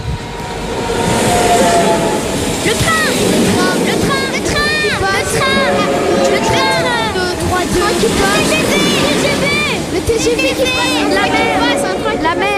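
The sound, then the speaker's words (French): A TGV high-speed train rushes past in a steady, loud rumble lasting throughout, with high squealing and whining tones rising and falling over it and some chattering voices mixed in. “Le TGV, la mer.”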